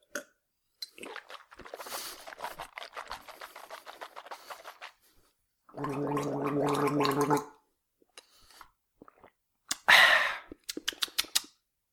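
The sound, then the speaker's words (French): Wet sipping and swallowing sounds as a man, a doctor, swallows urine, then a loud, sustained bubbling gargle of liquid in the throat, followed by a few sharp gulps and clicks, with no talking. “Et quoi? Monsieur, vous l'avalez?”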